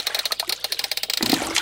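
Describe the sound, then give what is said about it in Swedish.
Water sloshes in a small goldfish bowl, a quick run of light rhythmic splashes that swells into a fuller, louder slosh near the end, with no voices. “Och det skvalpar.”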